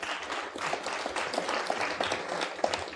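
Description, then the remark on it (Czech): A group claps steadily for about three seconds, a dense crackle of many hands at even loudness with no clear pauses or voices over it. “Tleskáme až potom, ne?”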